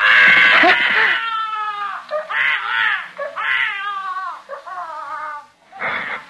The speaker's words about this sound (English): That's the most frightened I ever was in my life. When a kid started to yell. Because in the first place, I didn't know what it was right away. And in the second place, I thought, he'll wake up everybody in the apartment